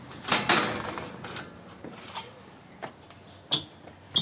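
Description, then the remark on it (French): A door being opened: a series of sharp clicks and rattles, a brief high squeak midway, and a final knock of the latch, with no one speaking. “Voilà, donc la porte.”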